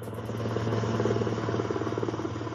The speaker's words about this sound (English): The helicopter yesterday evening that brought U.S. President Donald Trump back to the White House after 72 hours of hospitalization for the deadly COVID-19 virus.